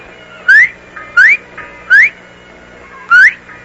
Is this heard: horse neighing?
no